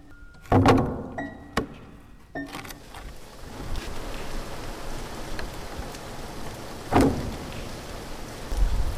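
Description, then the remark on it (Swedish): Steady warm rain hisses across the whole scene, soaking through clothing, a dense even patter, with a few louder knocks or thumps standing out near the start and again later. “Känner hur regndropparna åker genom fibrerna på mina kläder. Det är varmt regn.”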